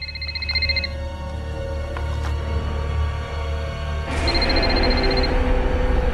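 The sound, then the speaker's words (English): A man's own cell phone rings while he examines another cell phone, in two short bursts of rapid, high-pitched trilling separated by a pause, heard over a steady low background rumble. “He takes out Anna's cell phone, and as he examines it, his own phone rings.”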